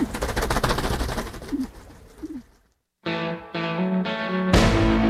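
Pigeons coo softly a few times over a dense, fluttering background, then after a brief silence, loud sustained musical chords take over.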